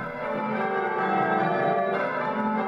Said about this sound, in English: My favourite hobby is bell ringing. It's fun and it gives me lots of exercise and I get to meet lots of really nice people.